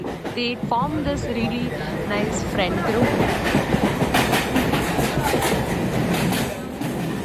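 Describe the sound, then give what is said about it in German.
A Mumbai local commuter train rolls along steadily with a loud, rhythmic clatter of wheels over rail joints, while a crowd of voices chatters throughout the carriage. “Mit den Local Trains zu pendeln, ist nicht ungefährlich.”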